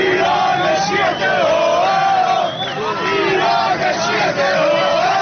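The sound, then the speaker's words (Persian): Fans of the Siah Jamegan Abu Moslem football team celebrate loudly after a 2-0 win keeps the team in the Premier League. A dense crowd roars and chants together in rising, wavering shouts that stay steady and intense throughout, with no single voice standing out. “شادی هواداران سیاه جامگان ابو مسلم پس از باقی ماندن این تیم در لیگ برتر.”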